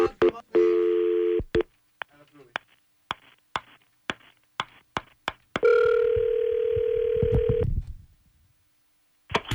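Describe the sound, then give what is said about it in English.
A telephone dial tone hums briefly as the radio station Kiss 92.5 calls an online contest qualifier, then a quick run of short dialing beeps and clicks follows, and a long steady ring tone sounds before the line clicks near the end. “And we will get our online qualifier on the phone.”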